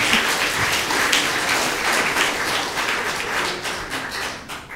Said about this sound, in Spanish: Dele un aplauso a Jesucristo.